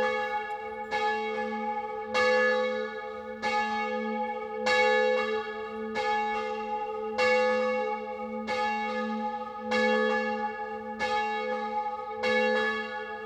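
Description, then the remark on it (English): Swinging bells of a little chapel in a rolling pastoral field below toothy mountains peal in a steady, overlapping rhythm, each strike ringing out with bright shimmering overtones that sustain and blend, fairly loud with no voices. “And sitting in the middle of that is this little chapel. And this is what the bells sound like.”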